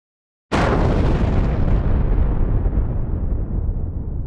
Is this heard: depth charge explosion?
yes